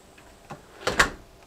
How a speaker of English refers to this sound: the garage has a storm door on it, which I'll open. And then an inside, steel inside door, of course, for fire protection, which I'll open. And we're in the garage now.